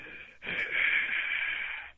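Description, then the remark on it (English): A voice imitates heavy, gasping breathing: a short catch of breath followed by one long, raspy, wheezing inhale-like rush of air, fairly loud, with no talking. “I started to hear what I thought was, you know, like heavy breathing, like gasping, like...”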